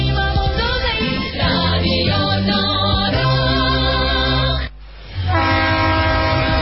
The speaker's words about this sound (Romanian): un tren care te duce acasă.